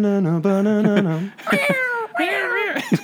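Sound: cat meowing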